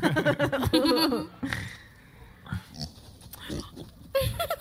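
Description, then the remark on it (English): A pig oinks and squeals, a burst of loud, high grunting at the start, then quieter snuffling grunts before another loud squeal near the end. “Pig.”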